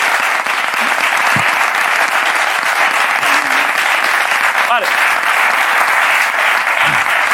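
A crowd applauds steadily, a dense, even wash of many hands clapping at full volume for several seconds, with a few brief whistles or shouts poking through.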